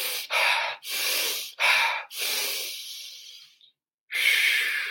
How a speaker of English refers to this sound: Next, breath. Do some breath work.